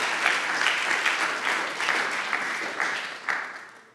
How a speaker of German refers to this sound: Come on, lass uns Gott nochmal einen Applaus geben.